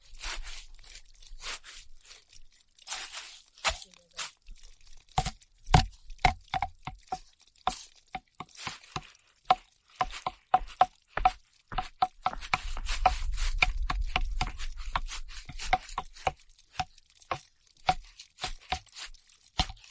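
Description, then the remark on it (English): Sharp wooden knocks and taps ring out in a loose, uneven rhythm, some with a hollow resonant tone, as if wood is being played like a percussion instrument. A low rumble swells briefly midway. “Wood makes a really nice instrument.”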